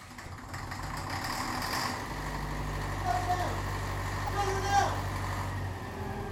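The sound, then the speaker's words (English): A vehicle engine with a plugged exhaust turns over and runs roughly with a low, choked rumble, steady, with brief higher squeals rising above it. “Something's plugged that exhaust, all right.”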